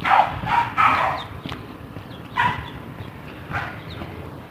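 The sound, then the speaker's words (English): A small dog barks in short, high-pitched yaps, a quick pair at first and then a few more spaced out, over a steady background hiss. “That's a little, that is a little dog.”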